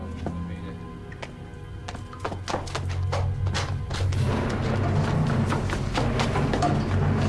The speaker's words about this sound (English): As she climbs the wooden stairs, she notices the policeman from the market standing above her in the doorway. She turns and runs downstairs. The policeman hears her footsteps and runs after her.